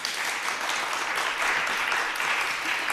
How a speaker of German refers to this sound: Wenn ihr jetzt mal alle ganz laut klatscht, dann wäre das vom kompletten Raum ein Ja. So würde sich also ein Ja von allen anhören. Klatscht einmal alle ganz laut.